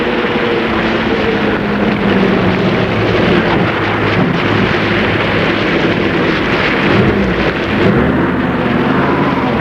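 Thunder at the start of a storm under a grey sky: a loud, continuous roll rumbles deep and steady for several seconds, a dense low roar with no voices over it.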